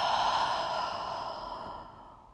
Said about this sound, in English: Breathing in. Open mouth, exhale, letting it all out.